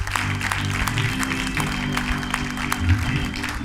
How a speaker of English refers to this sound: All right. Amen. All right. Give the Lord a hand clap of praise one more time.